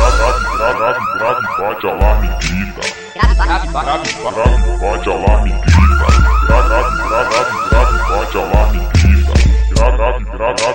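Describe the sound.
A car alarm's warbling, cycling tones repeat loudly and steadily, set off by and layered over heavy, thumping bass hits from a subwoofer wall with four 12-inch speakers, with a voice briefly heard among them.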